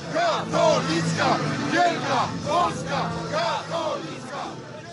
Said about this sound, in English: It's chanting about the paper promoting Islamic terrorism, promoting LGBT rights, promoting a transformation of Polish society.